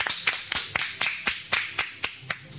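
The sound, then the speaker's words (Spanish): Audience applause for the guest Rendijas as he is welcomed on stage: sharp, evenly spaced claps at about four per second ring out over a steady wash of softer clapping from the crowd, with no voices. “Un aplauso, por favor, para Rendijas.”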